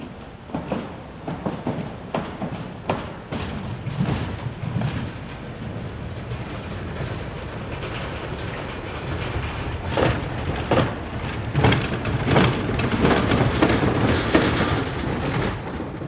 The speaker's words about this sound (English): That was the sound of a truck crossing the Waterloo Bridge, an 1878 metal truss bridge over the Rappahannock River at the Culpeper-Fauquier County line.